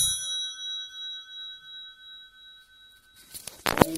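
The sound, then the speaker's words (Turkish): A telephone rings in a steady, pulsing trill for about three seconds, fairly clear, signalling an offer call in a game show, before a burst of louder clattering noise cuts in at the end. “Benim telefon gibi çalıyor lan.”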